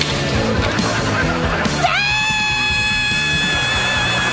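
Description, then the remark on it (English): A person on a traditional wooden toboggan run lets out a long, sustained high-pitched scream that rises and holds for a couple of seconds, loud, over a busy, loud background of music. “Then let out a scream and don't be afraid to give her.”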